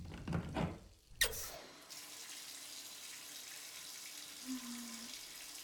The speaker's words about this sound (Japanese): お湯出すから暑かったら行ってね。